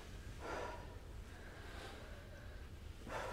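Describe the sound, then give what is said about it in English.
Heavy, labored breathing during exercise, with a few forceful huffing breaths spaced out over a few seconds against a low background rumble, like someone catching their breath after exertion. “Control your breathing.”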